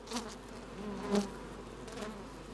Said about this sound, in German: Da haben wir zum Beispiel nur so ein Nestle, das ist jetzt so sächsische Wespe, nennt man die. Und die ist natürlich wunderbar. Erfolgsstärke zwischen 100 und 300 einmal, eine ganz tolle Wespe zum Händeln.